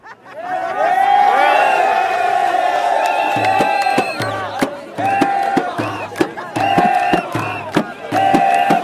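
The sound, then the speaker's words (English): A massive crowd in a square in Egypt roars and cheers, people jumping up and down shouting "he's gone", voices swelling into a loud, sustained shout that then breaks into rhythmic chanted bursts with thumping beats underneath. “Suddenly this massive roar went up over the square and people started jumping up and down saying, he's gone, he's gone.”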